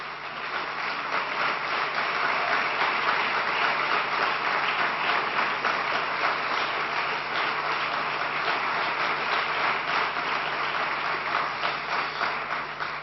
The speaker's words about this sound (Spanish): Nuestra admiración, nuestra gratitud, nuestro aplauso al doctor Agustín Navarrete Montoya.